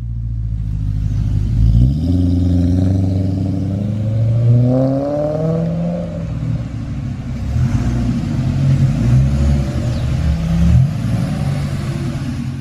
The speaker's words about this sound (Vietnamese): Thì ra có chiếc xe đang chạy tới. Đó là chiếc cam nhông của ông già dân da đỏ.